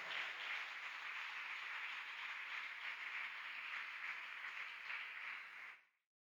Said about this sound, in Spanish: Yo quiero que le demos un aplauso al Señor en esta noche preciosa, por favor.